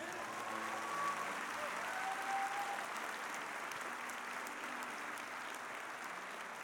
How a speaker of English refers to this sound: Everybody give the Lord a clap. Amen.